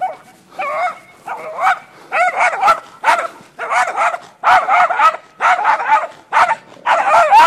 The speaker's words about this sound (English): Okay, you've caused enough mess now. Good job, all right? Little dog can make a lot of noise.